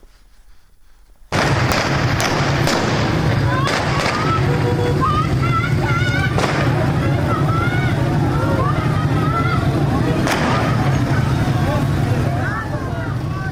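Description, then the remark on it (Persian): A loud, dense outdoor crowd of protesters roars and shouts continuously as they throw stones at a police post during clashes with police officers in Fanuj, Iran, on a Tuesday evening, with several sharp cracks of gunfire in the background, one louder around the middle; the noise starts abruptly after a brief quiet moment. “ویدیوهای منتشر شده در شبکه‌های اجتماعی نشان می‌دهد که معترضان به سوی یک پاسگاه سنگ پرتاب می‌کنند و در پس زمینه صدای شلیک گلوله شنیده می‌شود.”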